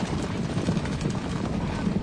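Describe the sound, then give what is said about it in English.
Several horses of the home guard gallop through woods, their hooves pounding in a rapid, continuous drumming of low, heavy thuds with a rustling wash on top. Loud and steady throughout, with no voices. “They watch the home guard thunder through the woods nearby.”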